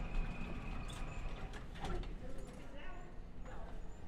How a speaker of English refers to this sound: -2 level. Doors opening.